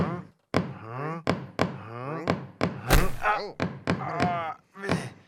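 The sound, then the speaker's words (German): A series of sharp, hollow knocks, about ten over several seconds in an uneven rhythm, loud, with tonal, voice-like sounds between the raps. “Da klopft einer.”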